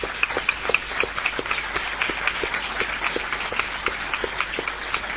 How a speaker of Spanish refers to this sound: que está presente y a quien saludamos ahora con un aplauso.